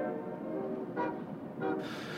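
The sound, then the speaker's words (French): A steady, dense low rumble of car and truck traffic and machinery at a port, with two short deep blasts of port sirens sounding briefly over it, followed by a wider wash of noise. “qui se mêlent aux chants des sirènes du port, les appels des mouettes, les crissements des grues”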